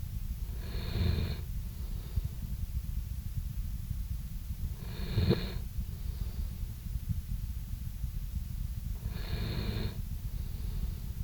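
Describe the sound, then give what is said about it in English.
A big Labrador retriever, sound asleep at the speaker's feet, snores softly, three slow breathy rasps spaced a few seconds apart, fairly faint, over a steady low rumbling background hum. “at my feet is George, our big Labrador retriever. And I don't know if you can hear him, Tom, but he's sound asleep and he's snoring away”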